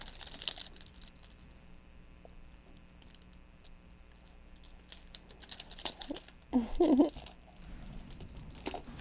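household object, keys being handled

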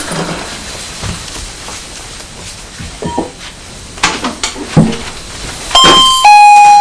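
signal or alarm, doorbell ringing

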